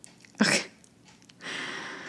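Snoring in Durham, North Carolina: a short, sharp snort, then a pause and a longer, raspy, wheezing breath that holds steady. No one speaks.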